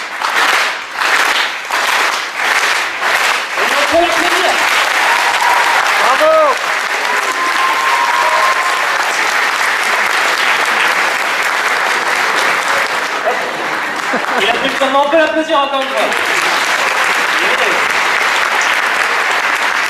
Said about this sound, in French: On va le refaire et vous allez lui faire un tonnerre d'applaudissements. Petite préparation, vous allez voir.